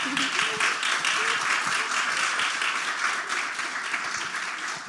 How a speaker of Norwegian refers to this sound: Vi klapper da.